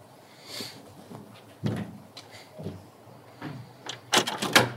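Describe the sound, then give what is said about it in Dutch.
A family's front door, after the doorbell is rung, being unlatched and opened, with a few sharp clicks and rattles spaced out and then a louder cluster of clattering knocks near the end, with no talking. “Voor het eerst aanbellen bij de familie van Eefke.”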